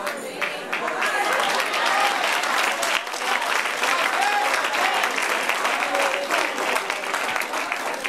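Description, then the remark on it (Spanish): A large church audience applauds steadily, a dense wash of many hands clapping at once, sustained and fairly loud throughout, with faint voices mixed into the clapping. “Oiga, a ustedes les gusta aplaudir. Hasta porque me bebí un vaso de agua, aplauden.”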